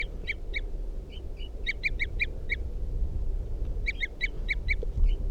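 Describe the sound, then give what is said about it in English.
A wild bird perched at the top of a cedar at a campsite, responding to decoys, gives three bursts of rapid, high, clear tooting notes, a few to about six in each run, over a steady low rumble, with no one speaking. “Toops of the wild bird. responding to the decoys.”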